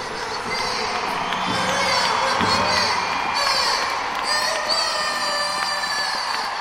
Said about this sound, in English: Teams are coming out now to thunderous applause. Great to see such a big crowd, so much excitement around this game.